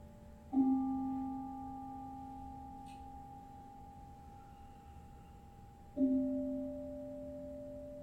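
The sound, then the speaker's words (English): A deep, soft mindfulness bell is struck twice during a Zen mindfulness practice, about five seconds apart, each strike blooming into a steady, resonant hum that lingers and slowly fades between them. “And hear how deep and soft and resonant that bell is.”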